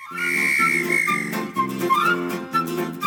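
A shrill, sustained whistle sounds over a bouncy musical backing in a humorous French song from the interwar period, holding one long high note before shorter whistled notes come in against the steady rhythm.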